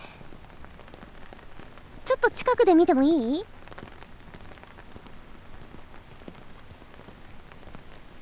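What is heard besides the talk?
rain falling on surfaces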